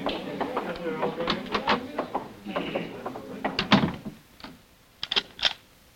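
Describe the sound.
Muffled voices and shuffling give way to sharp metallic clicks and a rattle as a door lock is turned, followed by a brief pause and a final pair of crisp clicks.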